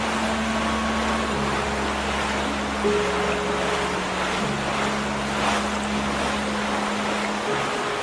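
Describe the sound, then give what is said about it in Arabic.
Rough sea waves churn steadily beneath a constant roar of wind as a storm intensifies around a fishing boat out at sea, with a low engine drone humming underneath throughout; no voices, just a loud, dense stormy wash filling the whole stretch. “العاصفة تشتد، أقترح أن نعود إلى الشاطئ.”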